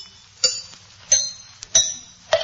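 A small hammer taps lightly on a tooth to detect whether it is ailing by its sound, four times at roughly even intervals, each tap a sharp, bright click with a brief metallic ring, plus one faint tick between them.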